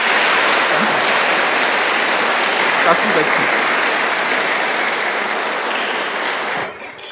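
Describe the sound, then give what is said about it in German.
An audience at a church service applauds in a dense, steady wash of clapping that holds evenly for about seven seconds, then thins and fades out at the very end. “Und ich finde, er könnte Annabelle vielleicht einen Applaus geben.”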